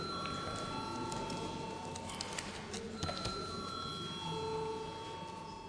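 signal or alarm, parliamentary voting bell ringing

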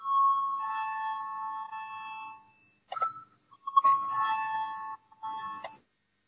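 signal or alarm, parliament voting bell ringing

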